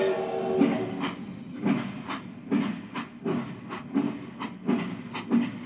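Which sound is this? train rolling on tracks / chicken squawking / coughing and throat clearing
train rolling on tracks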